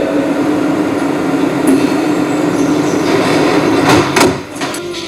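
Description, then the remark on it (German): A train carrying a commuter to the office rolls steadily along the rails with a continuous rumble and hum, joined near the end by brief metallic squeals and rattles from the wheels, fairly loud. “Weil mein Ferrari in der Werkstatt war, fuhr ich wie gewöhnlich mit dem Zug ins Büro.”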